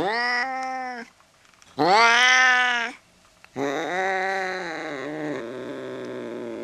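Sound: cat meowing angrily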